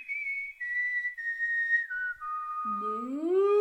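A person whistles a refrain from a musical through the rafters of a stable: long, held notes stepping gently downward, then a lower, richer tone slides upward near the end, steady with no talking.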